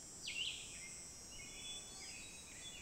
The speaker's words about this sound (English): Over there, if you can hear that fluty thing, that's the hermit thrush, and that's that.